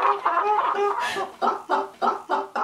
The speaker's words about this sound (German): Von aussen ganz ein normales Einfamilienhaus zu Bösingen im Kanton Freiburg. Nichts deutet darauf ein, dass da innen ein Tonjäger wohnt. Und doch, beim genauen Anhören, hört man aus dem Keller von dem Haus so etwas wie ein Gackern und Schnattern.